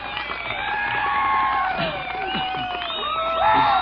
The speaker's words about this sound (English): And give Hilo a great big round of applause, don't you?